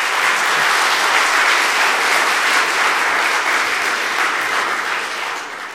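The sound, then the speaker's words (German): Sustained audience applause for a speaker after a talk on programming, a dense, steady wash of many hands clapping at a fairly loud, even level, tapering off slightly at the very end. No one speaks over it. “Ein Beifall ja.”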